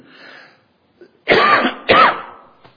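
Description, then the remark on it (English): A man clears his throat softly, then lets out two loud coughs in quick succession, followed by a brief quiet pause with no talking. “I'm going to cough again.”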